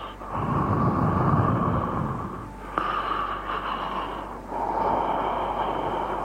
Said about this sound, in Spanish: Sí, en una respiración de alguien conocido o desconocido. Una respiración agitada, fatigosa, cerca del oído, inquietante. Como una amenaza.